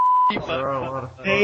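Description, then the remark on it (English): A short, steady, high-pitched censor bleep rings out alone for about a third of a second, then cuts off as a person starts talking. “The entire episode is going to be bleeped.”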